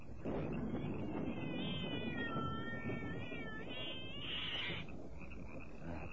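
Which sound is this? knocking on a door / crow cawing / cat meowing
cat meowing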